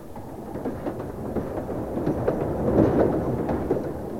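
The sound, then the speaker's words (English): A loud, steady rumble of a fast train rushing through a small station without stopping, swelling to a peak near the middle and holding a broad roar of wheels and wind with no voices. “He tried to throw her in front of the fast train.”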